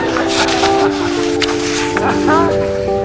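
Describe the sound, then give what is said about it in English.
A small steam train getting underway up a mountain, loud, with a steady hiss of steam, faint puffing bursts and sustained whistle-like tones sliding in pitch toward the end. “So they hitched the Fig Newtons to Wally's tender behind, and the little train started up the mountain. And for miles around, you could hear little Wally puffing, "I think I can, I think I can."”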